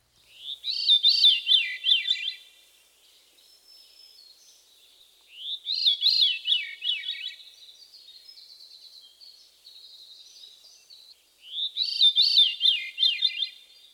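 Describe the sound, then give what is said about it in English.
A Veery sings three separate phrases of downward-spiraling, flute-like notes, each rich and ringing, with soft, thin tones lingering in the pauses between. No one speaks. “The Veery's haunting song consists of a series of downward spiraling flute-like notes.”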